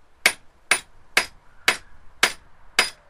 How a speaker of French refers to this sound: C'est un marteau. Le petit chien est en train de bricoler. Il répare quelque chose dans son garage.